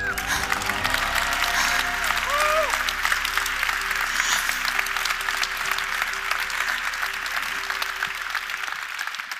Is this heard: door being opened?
no